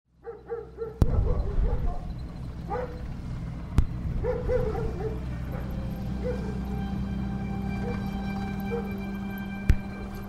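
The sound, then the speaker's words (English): A dog barks several times in quick, uneven bursts over a steady low rumbling drone, with a few sharp cracks or bangs punctuating the background. “And up next, …, historian and curator at the College Football Hall of Fame, tells us the story of Sergeant Stubby, the street dog turned soldier turned college mascot.”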